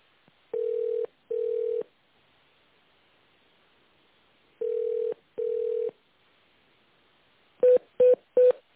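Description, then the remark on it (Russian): Telephone touch-tone dialing of an internal extension number: two pairs of steady, mid-pitched electronic beeps separated by a pause, then three quick short beeps, all clear over a faint line hiss with no talking. “Если вы знаете внутренний номер абонента, наберите его в тональном режиме, нажав кнопку с изображением звездочка.”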